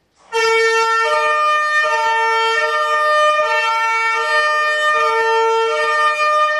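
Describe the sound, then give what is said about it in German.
A loud siren on a fire-red Vogt AG tanker fire engine blares continuously, alternating between two brassy, horn-like tones every second or so. It sounds for about six seconds with no voices over it. “Feuerrot, ausgerüstet mit allen Schikanen und einem Klang, der ihm nicht kalt lässt.”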